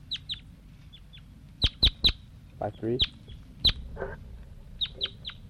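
juvenile bird calling

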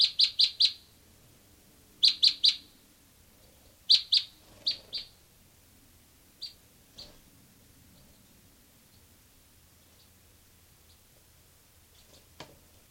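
bird calling

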